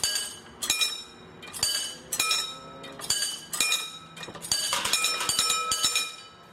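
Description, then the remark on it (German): A railway crossing barrier being worked by a crossing keeper, heard as a steady series of bright metallic bell-like clangs, roughly one every second or two, ringing on with overlapping tones and no voices. “Und zum Schluss kommt ein Geräusch. Der Schrankenführer.”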